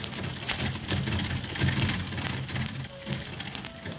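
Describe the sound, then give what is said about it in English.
Busy traffic on Siang Dock with a steady low engine rumble under dense, hissing background noise, continuous for the whole stretch, with no one speaking. “All of a sudden, the traffic on Siang Dock is thicker than New York City.”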